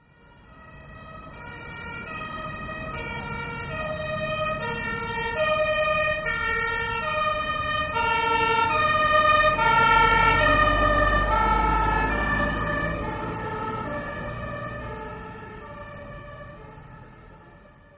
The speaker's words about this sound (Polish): Dlatego wozy strażackie jeżdżą na sygnale, czyli głośnym dźwięku. Jeśli usłyszysz taki głośny dźwięk, rozejrzyj się, czy nie stoisz tam, gdzie pojedzie wóz strażacki. Posłuchaj dźwięku wozu strażackiego.